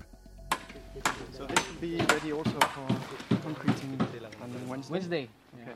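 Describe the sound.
Construction site ambience at a school rebuilding project, with sharp, irregular hammer blows ringing out, roughly a dozen strikes, while people talk steadily underneath.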